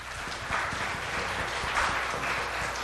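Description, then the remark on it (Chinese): A church audience applauds the Sunday school teachers, who have been asked to stand up. Many hands clap steadily for about three seconds in a dense, continuous patter, with a few sharper individual claps standing out; no one speaks over it. “请主日学老师麻烦站起来一下，请大家给他们鼓掌好不好？”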